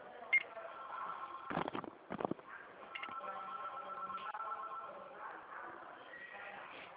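A telephone number being dialed: short tones and a couple of sharp button clicks early on, over a steady, faint electronic hum that continues throughout.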